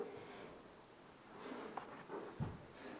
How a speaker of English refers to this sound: Yes, I hear sniffles. That evidence might lead me to believe that I'm not preaching to myself.